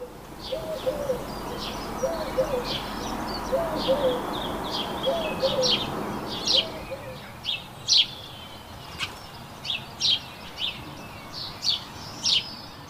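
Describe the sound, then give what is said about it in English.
Bird song outdoors: repeated high, bright chirps and trills in short bursts, with lower cooing calls in the first half over a steady background hiss. “Let's have a listen to some bird song.”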